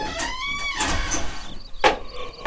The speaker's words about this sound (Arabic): هيا يا عزيزتي ادخلي، أنا سأغلق الباب، تفضلي.